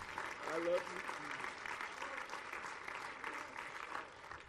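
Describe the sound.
An audience claps their hands in praise to God, a steady, dense wash of many hands from start to finish, with a few voices briefly calling out near the beginning.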